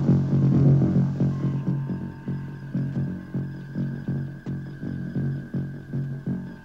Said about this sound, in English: Gentlemen, that sound is caused by the heartbeats of all the people on board the ship. Dr. McCoy will use this white sound device to mask out each person's heartbeat so that it will be eliminated from the sounds we are hearing.